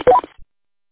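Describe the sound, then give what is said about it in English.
A radio roger beep: a quick electronic chirp of three short tones stepping upward in pitch, lasting a fraction of a second, followed by a faint low thump and then silence. “Although you might want to turn your Roger beep off.”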